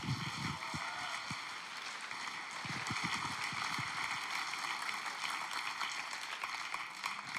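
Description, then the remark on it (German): An audience applauds steadily, a dense wash of many hands clapping that holds at an even, fairly loud level for several seconds without any voices over it. “Geben wir ihm noch mal einen Applaus.”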